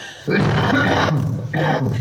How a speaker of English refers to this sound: The cough is also part of it.